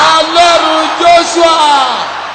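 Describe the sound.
An audience shouts together, many voices overlapping in a loud, sustained roar of raised cries that swell and fall in waves throughout.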